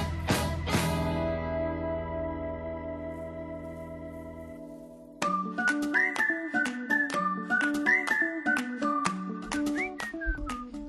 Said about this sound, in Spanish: A ver, cuando oímos esta música con silbidos...